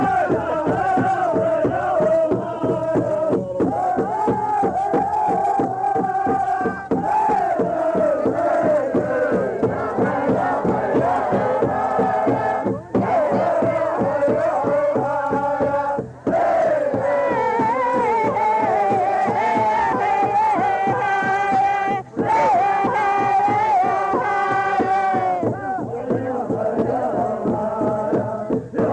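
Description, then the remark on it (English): Powwow singers at a 49 gathering at the Crow Fair, recorded live, wail together in a loud, high-pitched chorus, their voices rising and falling over a steady, driving drumbeat, with a few brief pauses between phrases. “I can hear my dad in there wailing away.”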